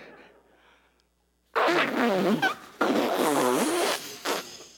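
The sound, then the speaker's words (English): Air squeals and sputters out of a leaky balloon of the world, not filled with helium, in two long, loud bursts, the raspy pitch wobbling up and down, followed by a short final puff after a faint hiss. “And it's got a hole in it anyway, so...”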